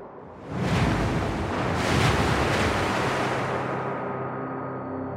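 Loud, rough water surges and crashes in continuous heavy swells, dark waves lashing the cockpit windshields of an Airbus airliner that has come down in the icy Hudson River, with a roaring, wind-like wash and a few stronger surges; no voices.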